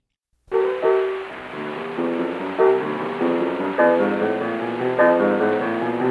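An old, lo-fi 1930 Paramount recording of a train blues on piano, describing a trip from Cairo, Illinois to St. Louis, plays steady rhythmic chords and bass notes over a constant hiss of surface noise, with no singing in this stretch.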